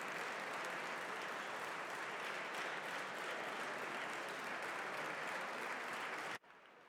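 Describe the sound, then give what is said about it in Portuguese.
Sustained applause for a deputy from a large crowd in a parliamentary chamber, dense and steady for over six seconds before stopping abruptly, leaving a faint hush. “Sr. Deputado ainda estava a beneficiar até das palmas também.”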